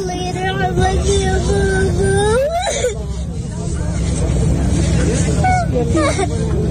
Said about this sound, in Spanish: Esta es una niña pequeña esta mañana llorando en Gaza sobre el cadáver de su padre.